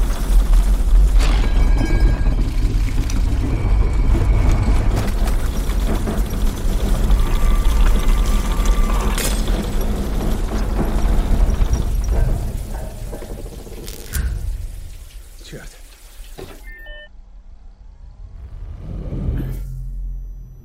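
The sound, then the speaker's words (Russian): A magnitude 6.5 earthquake in Sweden and Denmark while a man takes a shower: a deep, continuous rumble fills the first dozen seconds, with rattling, clattering and scattered bangs of shaking objects, then it thins out into quieter knocks and creaks before a final swell. “Землетрясение магнитудой в 6,5 баллов. Мужчина принимает душ. Все вокруг трясется.”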